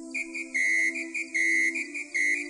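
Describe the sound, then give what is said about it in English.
A cricket chirping in a steady rhythm, about three bright, shrill bursts over a continuous high tone, with no voices. “So they chirped cheery notes in the grass soft and even.”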